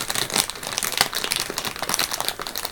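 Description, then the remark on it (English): Crinkly paper rustles and crackles continuously, with irregular bursts of crunching as a hand rummages inside a paper bag next to a car seat; no voices are heard. “There's a paper bag next to the car seat. Let me just have a look.”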